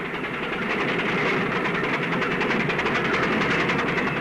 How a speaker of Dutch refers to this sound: Op deze plaats is men reeds bezig met het heien van de betonnen palen waarop de fundering van de ondergrondse zal komen te rusten.